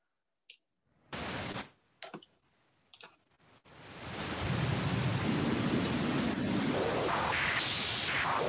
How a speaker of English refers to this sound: If I go into this ear trainer and use the parametric EQ stuff, we can do some pink noise, and I hope it's not going to blow anybody up here.